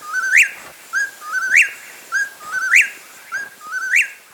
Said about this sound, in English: A desert-loving California quail crows in the forested mountains of West Virginia as frontiersmen watch warily for Indians.